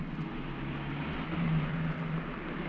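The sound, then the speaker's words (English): A car engine rumbles low and steady, swelling slightly midway as the vehicle rolls to a stop and parks, with no voices. “Better park here and we'll keep an eye on it.”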